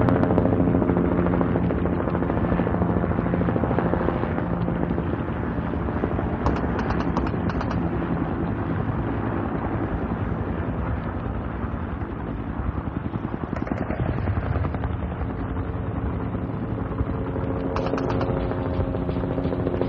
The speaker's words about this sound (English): Holy shit, they got a chopper? Damn, they're tearing those things up!